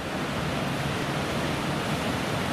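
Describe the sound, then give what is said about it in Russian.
A steady, dense roar of ocean surf as waves roll in one after another, constant and fairly loud with no distinct individual wave crashes. No voices can be heard. “И там еще волна за волной, волна за волной.”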